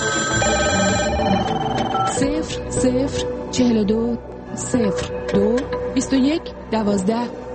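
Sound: telephone ringing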